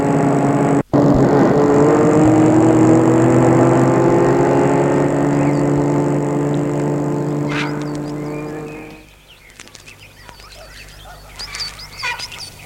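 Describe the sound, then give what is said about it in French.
A car drives to the countryside with a loud, steady engine drone for several seconds, then the engine sound drops away, leaving quieter outdoor ambience with faint scattered noises. “Mais ils y sont allés en voiture parce que François ne sait pas encore faire du vélo.”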